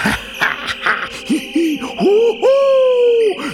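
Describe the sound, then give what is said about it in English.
An owl hoots: a few short, quick hoots, then two longer, drawn-out calls that rise and hold steady. A faint hiss of night ambience sits underneath. “Bats dwell here, and hoot owls too.”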